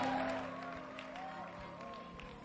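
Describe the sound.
An audience claps to welcome a woman coming up to share her testimony, a dense, steady patter of many hands lasting the whole moment, with a sustained tone and a faint voice rising over the applause.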